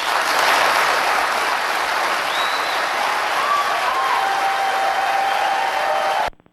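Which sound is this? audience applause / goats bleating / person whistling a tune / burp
audience applause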